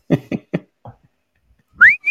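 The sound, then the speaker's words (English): Three short, clipped vocal sounds come first, then after a pause a person calling their dog gives a loud upward-sliding whistle followed by a brief steady whistled note. “Sorry, I'm whistling for my dog.”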